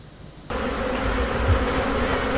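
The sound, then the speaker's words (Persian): A dense, steady buzzing of many honey bees swarming around colorful hives in the backyard of a beekeeper's home in Australia begins abruptly and continues as a loud, continuous hum with no one talking. “این کندوهای رنگارنگ در حیاط خلوت خانه یک زنبوردار به بازگشت زنبورهای استرالیا کمک می کنند.”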